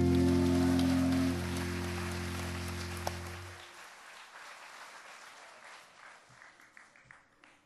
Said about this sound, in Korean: 박수치기가 잘 안 맞지요?